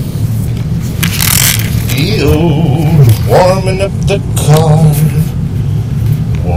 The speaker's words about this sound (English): I am here in Nebraska. We have a full-blown blizzard going on, I believe, right now. And I'm just kind of sitting here warming up the car.